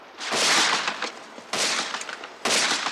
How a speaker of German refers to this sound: Woher kommen diese Schüsse?